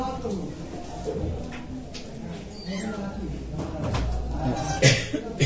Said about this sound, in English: This is Srila Prabhupada's room where he was residing before he came to the West. And we can close the screen door.